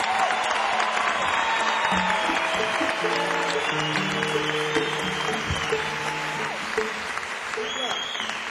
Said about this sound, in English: Would you please give them all a nice round of applause?